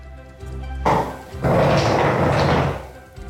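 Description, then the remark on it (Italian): A chair scrapes across a hard floor in two rough, grinding drags, a short one followed by a longer, louder one, with no voices. “Ha spostato una sedia.”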